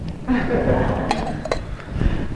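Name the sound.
glasses clinking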